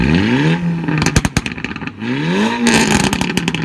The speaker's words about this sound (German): Sogenannte Auspuffklappen, die klingen so.